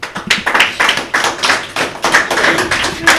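A small group applauds three CM primary-school pupils about to play the first round of a guessing game, dense overlapping claps rattling steadily for a few seconds, loud, with no voices on top.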